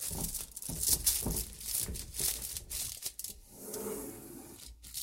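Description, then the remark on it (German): Aluminium foil on a wine bottle crinkles and rustles steadily for several seconds, a bright, scratchy crackling with irregular bursts of rubbing and tearing-like texture, fairly loud and without talking. “Es gibt bestimmt ganz fiese Geräusche im Mikrofon mit diesen Anrufen, dieser Alufolie.”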